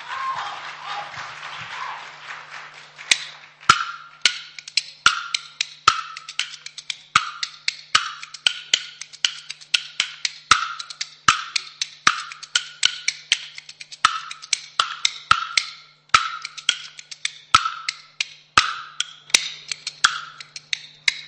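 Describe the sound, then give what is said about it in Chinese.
After a brief burst of applause, bamboo clappers launch into a crisp kuaiban rhythm opening the kuaiban story piece Lu Da Chu Ba at the Deyunshe Sanlitun Theatre: sharp, bright clacks in steady, syncopated patterns, played loud and alone for about eighteen seconds without any voices. “下面我们的演出正式开始，首先请您欣赏快板书鲁达厨霸，”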